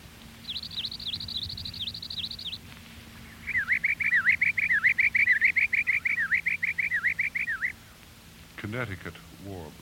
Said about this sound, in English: Palm warbler.